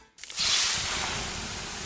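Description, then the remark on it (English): Water poured on 800-degree rocks in a sauna hits them with a sudden loud hiss, then a steady, bright sizzle of steam that fades slowly over a couple of seconds, with no voices. “The sound of water being poured on 800-degree rocks.”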